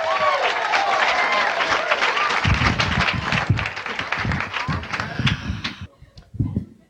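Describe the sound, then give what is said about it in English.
A crowd applauds loudly for comic impressionist Carlos Alazraqui in Sacramento, dense clapping with some cheers for several seconds before tapering off abruptly near the end. “Big round of applause, Carlos Alazraqui.”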